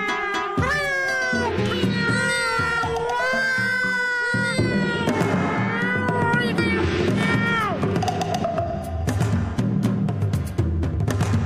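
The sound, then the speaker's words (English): Cats screech and yowl in a loud, frantic fight, their shrill, wavering cries overlapping nonstop with scuffling noise underneath for the whole stretch. “It began with loud sniffing and scratching noises, which was followed by the most terrible screeching and screaming.”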